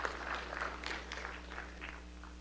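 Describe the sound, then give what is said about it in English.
A crowd at a City Council meeting claps steadily for a couple of seconds for the women from the Pie Bar on Pine Avenue, the applause fairly soft with a low electrical hum underneath; no one speaks. “So let's give them a big round of applause for being here as well.”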